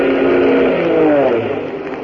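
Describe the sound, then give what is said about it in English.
A loud, steady droning of an army plane's engine as it flies toward the listeners, a harmonic roar whose pitch bends slightly downward as it passes, with no voices over it. “Hey, listen. A plane.”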